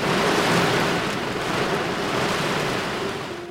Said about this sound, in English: The night was chilly. It was early November, and a light drizzle added to my discomfort. Soon it was raining quite heavily.